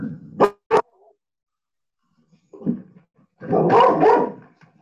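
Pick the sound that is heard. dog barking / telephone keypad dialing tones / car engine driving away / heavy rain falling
dog barking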